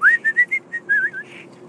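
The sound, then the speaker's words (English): A person whistles a short tune: a rising opening note followed by a quick series of bright, clipped notes and a final wavering phrase, loud with no talking. “he would whistle that out the window, and then you'd hear … answering.”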